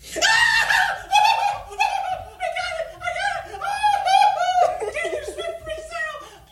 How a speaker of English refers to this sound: Oh, no. This guy's a dad. Uh-oh. An adult human being in a viral video screaming like a little girl because he finally got through and got tickets.